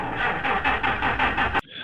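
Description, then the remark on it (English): An engine cranks in a steady, rapid rhythm of loud, grinding pulses for over a second without catching, then cuts off abruptly. No voices. “I hear a vehicle trying to rev, but I don't know what that is.”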